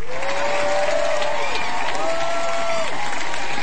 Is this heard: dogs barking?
no